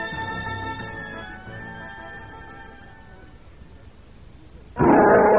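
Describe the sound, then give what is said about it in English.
A Wookiee's loud, rough roar of rage rises and slowly fades over a few seconds, ending in a sudden harsh burst of noise. “roared his rage.”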